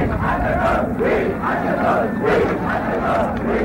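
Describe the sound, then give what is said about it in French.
A crowd of some 500,000 demonstrators marching in the evening from Place de la Concorde to l'Étoile chants "De Gaulle n'est pas seul" in unison, loud, rhythmic surges of many voices repeating the phrase roughly every second, with a dense roar of the crowd underneath throughout. “Dans la soirée, 500 000 manifestants défilent de la place de la Concorde jusqu'à l'étoile au cri de « De Gaulle n'est pas seul ».”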